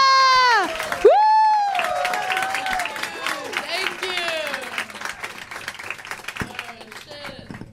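A crowd at a Bay Area night in the Exploration Live house bursts into loud applause and cheering, with high whooping shouts at the start giving way to a steady wash of clapping that gradually thins out.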